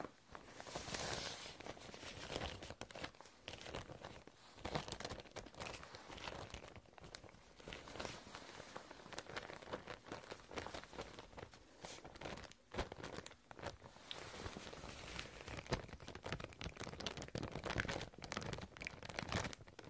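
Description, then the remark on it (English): Continuous crinkling and crumpling of soft fibrous Thai mulberry paper, steady for the whole stretch, with occasional sharper tearing-like rustles and no voices. “It's called Thai Marbury paper.”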